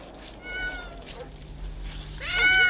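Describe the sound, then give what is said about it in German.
A tomcat meows twice while its black-dyed paw is rubbed with a solvent-soaked handkerchief, a short call early on and a louder, rising yowl at the end, with no one talking. “Der Kater hat ja in Wirklichkeit weiße Pfoten.”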